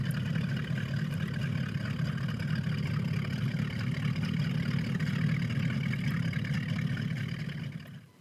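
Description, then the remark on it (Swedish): A boat's twin V8 engines idle along slowly, a deep, steady low rumble with a faint throb, continuous for several seconds before fading out at the end. No voices. “Dubbel V8 som kör försiktigt genom...”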